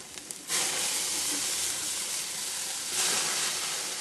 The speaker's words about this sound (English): Grilling steaks. They sizzle as he sprays them. This is beef the family's raised, and he checks out each cut with a thermometer